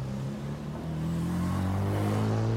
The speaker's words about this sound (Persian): جوان دیگر مطمئن شده بود، برای همین در کابوت را بست، درون ماشین نشست و آرام حرکت کرد.